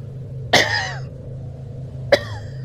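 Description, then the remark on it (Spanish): Two separate coughs from someone outside, just behind the back door, at night: a sharp one, then after a pause a shorter one, over a steady low hum, with no talking. “Lo que sea que tosía allá afuera, lo hizo ahora apenas detrás de la puerta.”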